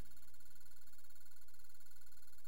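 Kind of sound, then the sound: signal or alarm, telephone ringing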